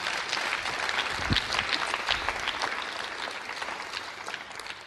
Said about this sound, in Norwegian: men i stedet kan de gi disse en stor applaus. Yes, takk skal dere ha.